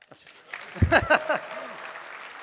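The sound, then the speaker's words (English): A short burst of audience applause that swells quickly, peaks for about half a second, then fades into a low murmur, with a few voices mixed in. “So clap.”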